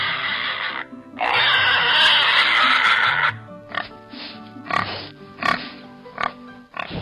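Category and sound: animal, pig grunting and squealing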